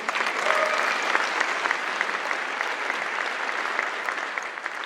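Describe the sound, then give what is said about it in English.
Steady applause from a church audience, dense rapid clapping at an even loudness for several seconds, with no voices standing out above it. “You can clap.”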